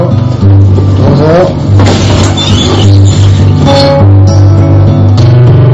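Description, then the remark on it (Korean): A city bus engine drones loudly and steadily, its low hum rising in pitch as it accelerates, then settling into a constant rumble with faint rattles throughout, as the driver makes the last loop of the day. “이번 한 바퀴만 돌면 오늘은 끝입니다. 하루 종일 버스 운전을 해서”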